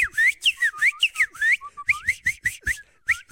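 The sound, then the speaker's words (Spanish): Someone whistles an imitation of the song of a bird called the Sianang: about a dozen quick, bright notes that swoop up and down in a steady, bouncy rhythm, fairly loud and with no talking. “Ese pájaro lo estuvieron estudiando durante un eclipse. Y ese pájaro normalmente en la mañana no empieza. Hace un cantío muy bonito de...”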